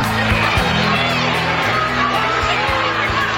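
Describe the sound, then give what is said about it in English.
A loud, dense crowd at a Bernie Sanders rally roars and shouts continuously, with overlapping voices calling out, heckling, booing and jeering at him. “A lot of heckling going on, booing during the prayer.”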